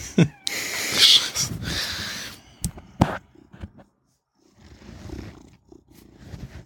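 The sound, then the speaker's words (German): A cat purrs, a steady low rumbling with breathy rises and falls, briefly pausing before the purr resumes more softly. No one speaks. “Nee, es war eine Katze. Ich weiß nicht, ob man das Schnurren noch gehört hat.”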